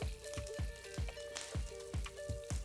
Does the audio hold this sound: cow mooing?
no